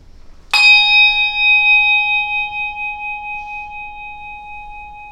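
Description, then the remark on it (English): A single bell is struck once before Sunday morning worship, producing a bright metallic clang that rings out with a long, steady sustain, slowly fading over several seconds, with no talking. “After the ringing of a bell and a moment of quiet, we'll begin our Sunday morning worship.”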